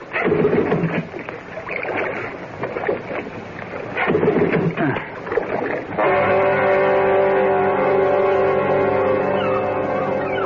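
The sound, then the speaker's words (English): Water sloshes and splashes around a small motorboat whose motor has died and which is drifting, for several seconds, then gives way to a steady, even droning hum that continues to the end. “The motor's died. And the boat's drifting.”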